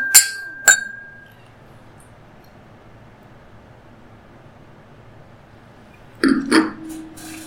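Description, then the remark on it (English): Two quick, bright clinks of wine glasses touching in a toast before tasting a bold, rich wine, the second ringing on briefly, then near silence before a soft clatter of movement. “Well, I mean, there's no reason to wait, so. Cheers.”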